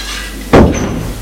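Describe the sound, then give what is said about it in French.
A woman shuts a bedroom door behind her with a single solid thud and a brief ringing decay, following a moment of quiet room hiss. “Elle a refermé la porte derrière elle.”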